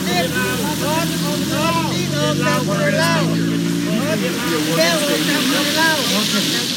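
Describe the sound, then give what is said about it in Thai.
A crowd of many voices shouts and cheers together, overlapping rising and falling calls that stay loud throughout, with a steady low droning hum underneath for the first few seconds. It is a peaceful protest rally of the overseas Lao community in front of the Lao Embassy in Washington, D.C., on a cold day with intermittent rain, December 1. “นั่นคือเสียงโห่ฮ้องที่ดังขึ้นเป็นระยะระยะของการโหมชุมนุมประท้วงอย่างสันติของประชาคมลาวในต่างแดนต่อหน้าสถานเอกอัครราชทูตลาวประจำนครหลวงวอชิงตันดีซีท่ามกลางบรรยากาศที่หนาวเย็นทั้งมีฝนปล่อยลงมาเป็นทรงๆของวันที่1ธันวาคม”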